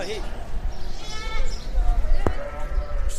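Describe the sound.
Sheep bleat in a wavering call amid a busy, noisy livestock market in Baghdad, Iraq, where sheep are bought for sacrifice at an Islamic festival, with murmuring voices, background clatter, and a sharp knock near the end.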